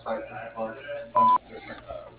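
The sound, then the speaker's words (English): A voicemail beep: one loud, steady mid-high tone lasting about a quarter second, set between stretches of muffled talking. “At the beep, please leave a message.”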